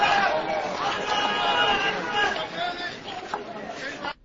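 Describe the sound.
A large crowd at a protest shouts "Allahu Akbar" ("God is great") together in a sustained, chant-like roar, many people calling out at once for several seconds before it cuts off abruptly.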